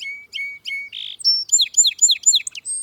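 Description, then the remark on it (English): A song sparrow sings one clear phrase: three quick introductory notes, a short buzzy trill, then a rapid run of sweet, descending chirps. No voices. “But many other species show a distinctive streaking pattern, like this song sparrow.”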